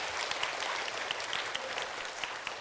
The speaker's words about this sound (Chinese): 我哋再一次俾热烈嘅掌声，多谢各位小朋友。